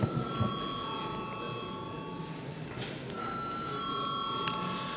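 parliament chamber bell ringing

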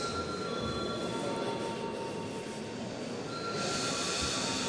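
parliament voting bell

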